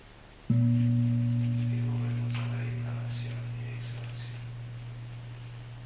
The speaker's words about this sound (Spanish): Siempre que suena el gong, observamos cómo está nuestra mente.